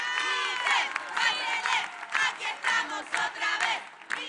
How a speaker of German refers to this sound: Der Applaus tut ihr gut.